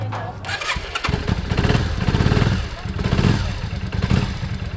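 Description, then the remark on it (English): A motorcycle engine idles and revs on the driveway of a home in Santa Cruz with a steady, sputtering low rumble and uneven pulses, while about half a dozen bikers chat indistinctly in the background and work on their motorcycles. “outside on the driveway, a half dozen bikers are chatting and working on their rides.”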